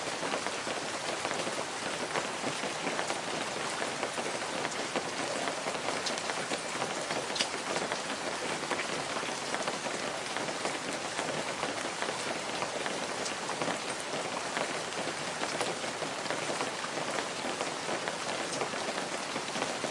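Heavy rain pours down steadily at night during a raging typhoon in a dense, continuous hiss, drops drumming on surfaces throughout without pause, loud, with no voices present.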